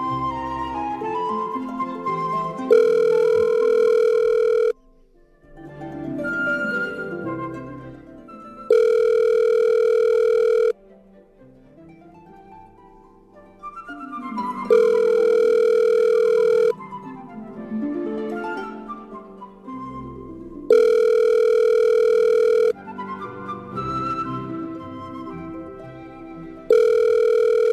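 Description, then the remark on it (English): A repeated telephone call to Wally rings on without being answered: five steady, buzzy ring bursts of about two seconds each repeat at regular intervals, with a wavering tune filling the gaps. No one speaks. “Did he hang up? Yep. Call again.”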